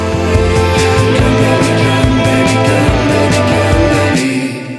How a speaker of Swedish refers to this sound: Så bara ta det största reverbet du har och bara lägg på breaket så att det bara låter så här. Så nu de bara får andas ut.